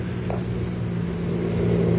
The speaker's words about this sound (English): Sounds like a car heading this way. Snap off your light. Let me take a look. You're right. It is heading this way.